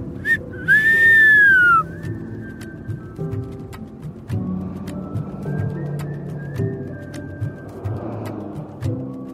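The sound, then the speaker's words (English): A loud, short human whistle near the start that slides slightly downward in pitch, followed by steady music with a low, busy backing that plays on to the end. “So the next time you are driving and you flick on the cruise control, Give a little whistle for Ralph Dieter.”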